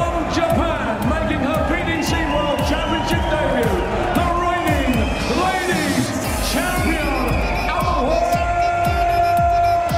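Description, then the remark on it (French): A large arena crowd at a darts event roars and cheers continuously, loud, as Japanese darts player Mikuru Suzuki makes her walk-on, with many voices shouting and singing over what sounds like pumping entrance music. “Là, c'est la japonaise Mikuru Suzuki qui fait son entrée devant une foule en liesse.”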